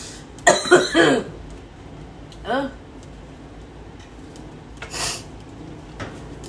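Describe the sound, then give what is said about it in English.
A harsh burst of two or three coughs, followed by a few quieter, spaced-out coughs and throat clearing over the next several seconds, with no talking. “See, I knew I was gonna cough.”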